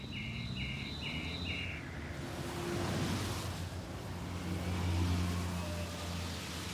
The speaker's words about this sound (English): I can lie in bed at night and I can hear the swooshing of cars along the street at 2 or 3 in the morning like that. And it's a very calming sound. It's just a really kind of calming sound to hear it